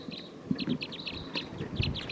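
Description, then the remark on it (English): A wild flock of about 14 birds in trees, many of them bright red males with some females, calls continuously, a busy chatter of short, high-pitched chirps overlapping at an uneven rhythm over a low rumbling background, with no one speaking. “This is recording wild bird. This is a wild flock.”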